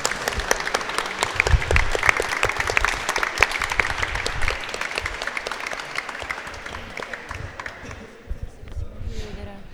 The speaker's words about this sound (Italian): Adesso mi fermo qua. Fatemi un applauso di consolazione.